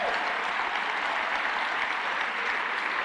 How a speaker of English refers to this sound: I just want you to see the people that do the actual work in our city and give you an opportunity to give them a round of applause.